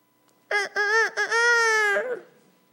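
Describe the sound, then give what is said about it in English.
A single rooster crow rings out loud, a few short clipped notes rising into one long, drawn-out call that trails off, with silence before and after. “before the rooster crows twice, you will have denied me.”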